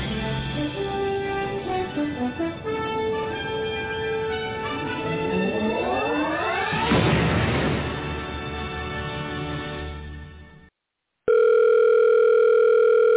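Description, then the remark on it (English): A telephone rings with warbling electronic tones that sweep upward into a hiss of static, then after a brief silence a loud, steady tone sounds as an answering machine picks up, with no voices present. “You have reached the Q Continuum. We are unable to get to the phone right now because we are busy living in a plane of existence your feeble mortal minds cannot possibly comprehend.”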